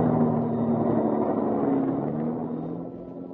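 A car engine rumbles steadily with a low hum as a taxi pulls up, easing off slightly toward the end. No one speaks.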